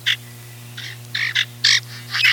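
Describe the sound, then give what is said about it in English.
A male common grackle, also called the crow blackbird, gives a series of about six harsh, squeaky, rasping calls in uneven bursts, some short and clipped, others longer and buzzy, over a steady low hum. These are communication calls between males. “Males make a variety of noises, which sound comical or irritating depending on your frame of mind.”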